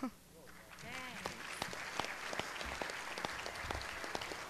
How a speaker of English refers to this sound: Give her a good round of applause in that great awards committee. What wonderful choices they made this year.